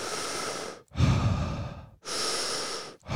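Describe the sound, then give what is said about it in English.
Loud, airy conscious connected breathing in an unbroken cycle: about four inhales and exhales run together in quick succession, each flowing into the next with only the briefest dip and no pause at the top or bottom of the breath, and no talking. “So conscious connected breathing. Connected meaning there's no pause at the top of the breath and there's no pause at the bottom of the breath, okay?”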